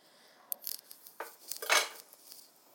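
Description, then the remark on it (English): A soup pan and a big jug being handled as soup is tipped from the pan into the jug: scattered clinks, knocks and scrapes of kitchenware, with a louder, longer rattling scrape in the middle, and no voices. “what I do is I tip my soup from my pan into a big jug, and then from the jug into the blender jug, because it's easier to pour than you see from my jug.”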